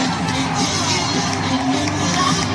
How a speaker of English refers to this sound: Fans are having a good time. Supposed to fire up the crowd, right? You sip ahead. It's fans singing along.